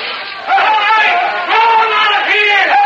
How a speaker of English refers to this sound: Most everybody in town's out front. They're yelling for the hatchet killer.